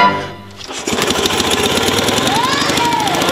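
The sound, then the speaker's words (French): An old 10-horsepower, 500-kilogram Monoax tractor of the post-Second World War era cranks and catches, then settles into a loud, steady chugging run with rapid mechanical knocking, continuous to the end. “10 chevaux, 500 kilos. OK. C'est ce qui remplaçait les chevaux après la Deuxième Guerre mondiale.”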